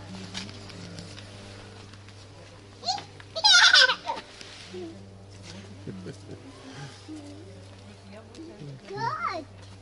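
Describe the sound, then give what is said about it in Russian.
A short, high, wavering bleat from a horned goat of a delicate breed rings out, with fainter bleating near the end, while people talk quietly over a steady low background hum. “Или это козочки?”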